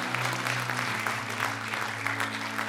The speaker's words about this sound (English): And all the people said, amen. Give the Lord a hand clap, guys. Praise God.